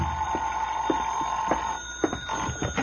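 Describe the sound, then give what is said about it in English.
A telephone rings in Johnny Dollar's room. It rings steadily and without pause, a bright, buzzing bell tone that holds for the whole few seconds, with a few soft knocks underneath and no voices. “I went back to my room and the phone was ringing.”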